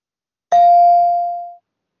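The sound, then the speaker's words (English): A single bright bell ding strikes sharply and rings out clearly, its tone sustaining and slowly fading over about a second with no voices present. “Let's lower the fanfare and start with the bell, please.”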